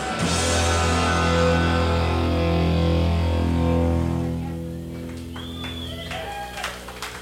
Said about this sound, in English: Ouch! That sounds like a golf clap.